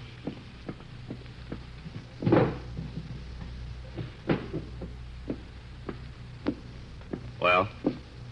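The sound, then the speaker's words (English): The top middle drawer of a desk slides open and things inside are rummaged through as it is searched: scattered light clicks and knocks, plus two louder rattling bursts, over a low steady hum. “In the top middle drawer of my desk. Inspector, will you see if it's there?”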